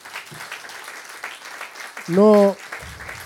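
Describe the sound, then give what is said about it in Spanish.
A crowd applauds steadily for the pastors, a dense wash of clapping running throughout, with a short loud vocal whoop or cheer rising out of it partway through. “Así que, ¿por qué no le damos un aplauso a vuestros pastores?”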